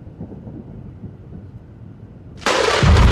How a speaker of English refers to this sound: Thunder crashed, and lightning struck with violent fury.